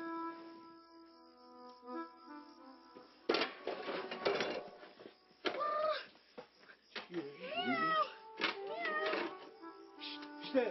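A cat meows several times, its wavering cries rising and falling over a background of clinking household clatter and a steady low hum.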